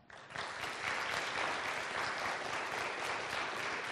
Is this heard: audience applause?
yes